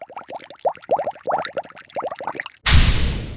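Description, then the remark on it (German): Rapid, bubbly plopping and gurgling builds for a few seconds, then breaks into a sudden loud, steady fizzing rush as baking soda and vinegar erupt and foam over in a volcano model demonstration. “Gleich sprudelt es”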